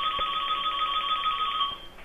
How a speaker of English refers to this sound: Wow, that is the most annoying ringtone I've ever heard.